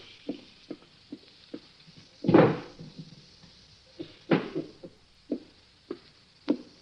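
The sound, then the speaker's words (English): The top middle drawer of a desk slides open with a rough scrape, followed by scattered knocks and clunks as objects inside are shuffled and searched, then another sliding scrape; no one speaks. “In the top middle drawer of my desk. Inspector, will you see if it's there?”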